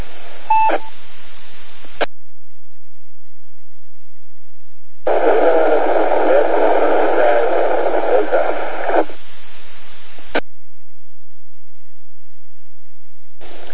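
Two amateur radio transmissions collide on the same frequency during a radio net check-in, producing a garbled, buzzing burst with steady whining tones over static, framed by short squelch clicks and brief bursts of hiss.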